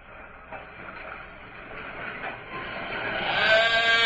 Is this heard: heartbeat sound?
no